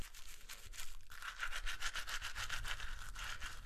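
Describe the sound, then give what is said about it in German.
Steady teeth brushing with tooth powder: rapid, rhythmic scrubbing strokes with a bright, hissy texture, continuous and fairly loud, with no talking. “Ich benutze schon Zahnputzpulver, während andere noch nicht einmal daran denken, sich die Zähne zu putzen.”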